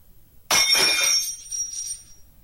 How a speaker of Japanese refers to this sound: その時、台所でガラスの割れる音がした。慌てて行ってみると、おばあちゃんのコップが割れていた。